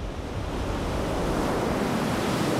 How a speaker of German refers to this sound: Endlos weit ist der Strand, das Meer rauscht.